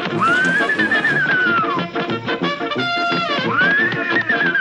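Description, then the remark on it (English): In The Flintstones cartoon, Barney imitates a horse neighing for baby Pebbles: a loud, wavering whinny that rises and falls in pitch, repeated twice over a few seconds with breathy, nasal tones. “Hey, look, Pebbles. I'm a horsey.”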